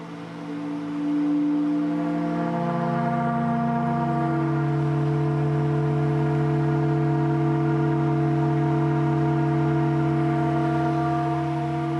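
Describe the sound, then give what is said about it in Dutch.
A waste organ, a large pipe organ powered by big vacuum cleaners that switch on about every 20 minutes and played by pressing rubbish bags, swells in over the first second, then holds a loud, steady chord of several sustained pipe tones, with the lower notes shifting briefly before settling into a constant drone. “Om de 20 minuten of zo gaan de stofzuigers aan en ontstaat er dus een afvalorgel, waarbij je zelf op de vuilniszakken kan drukken om muziek te maken met het afval.”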